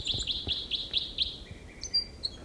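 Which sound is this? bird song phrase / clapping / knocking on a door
bird song phrase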